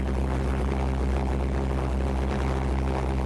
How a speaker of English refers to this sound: And you can tell I wasn't very good at birthday cakes as a kid, as obviously the Pulse Jet just blows out the flame. So I made a thing to try and protect the flame on the gas pipe and gave that a go.